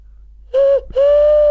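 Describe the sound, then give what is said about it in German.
Someone imitates an owl by whistling: two low, hollow hoots, a short one followed by a longer sustained one, loud and steady in pitch with no talking over them. “Ich kann dafür die Eule.”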